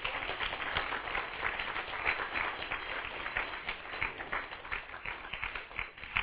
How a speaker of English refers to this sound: All four of you clapping about that, but this is the clappingest church I've ever seen.